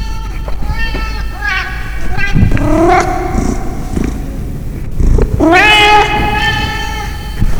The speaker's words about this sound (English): Where did that cat come from? Oh my god. You heard that too?